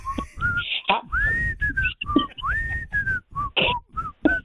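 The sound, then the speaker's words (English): A person whistles a bright, bouncy melody of short notes and sliding pitches, clear, over a steady rhythmic backing with no talking. “You can do that, right? You can whistle.”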